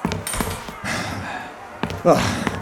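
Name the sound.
door being shut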